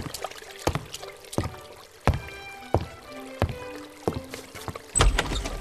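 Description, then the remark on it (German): Water gushing and splashing from a burst pipe and spilling everywhere, coming in repeated sloshing bursts roughly every half second, clear, with no voices. “Ein Pipe hat geplatzt und sie gießt sich Wasser überall.”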